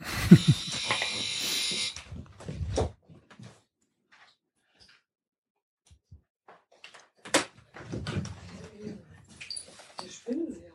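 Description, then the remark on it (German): A door creaks open with a drawn-out, buzzing groan of the hinges, followed by scattered shuffling noises and a few quieter knocks. “Oh, bei mir ist, oh, bei mir ist die Tür aufgegangen”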